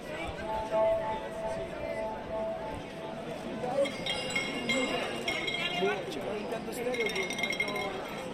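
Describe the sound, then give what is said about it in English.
Bright, glassy clinks like ice knocking in a glass ring out repeatedly in the second half, over a steady murmur of hundreds of conversations in the background. “That clinking sound. It sounds like ice blocks in a glass, a giant's glass.”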